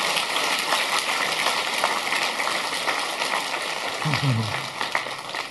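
Steady applause from a crowd, a dense, even patter of many hands clapping for about five seconds, with a brief murmur of a voice near the end.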